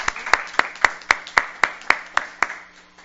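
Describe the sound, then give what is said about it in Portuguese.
Applause for municipal council staff who have completed 18 years of service, in a steady, even rhythm: about a dozen sharp claps, evenly spaced, fading slightly toward the end, with no voices over it. “umas palmas a nossos servidores que completaram 18 anos de serviço da casa.”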